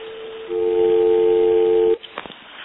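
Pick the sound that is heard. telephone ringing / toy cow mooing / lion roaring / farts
telephone ringing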